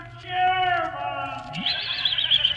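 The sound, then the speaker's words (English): A horse whinnies, a loud harmonic cry that slides downward and breaks into a high, shaky trill for a couple of seconds, with no talking over it. “Probably just the ghost of a dark horse looking for its stable.”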